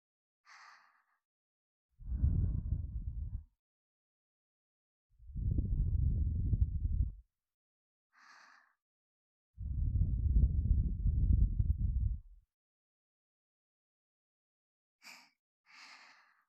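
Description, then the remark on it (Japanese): Three long, soft, low warm breaths blown steadily into the ear, each lasting one to two seconds, alternating with faint, brief airy hissing sounds; no talking. “お耳をふうふう、温かな吐息、いかがですか？”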